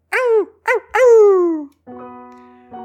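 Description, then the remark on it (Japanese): A dog named Pochi barks twice in quick, sharp yelps, then lets out a longer bark that slides down into a whine, followed by a thin, steady whimpering tone. Loud, no talking. “よしよしよしよし、よしポチおいで。”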